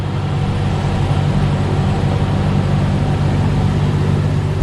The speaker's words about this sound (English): With twin 825 horsepower engines, the new vessels can really fly. Top speed is 40 knots, or about 40 miles per hour.